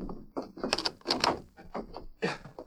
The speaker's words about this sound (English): I'll bolt the door.